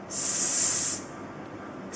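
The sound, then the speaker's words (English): A voice sounds out the letter S, imitating a snake's hiss with a sustained, bright "sss" lasting nearly a second, then a short pause before a second hiss begins. Fairly loud, with no other talking. “Now, what is very special about s is that its sound is like a snake-like sound, the way a snake hisses.”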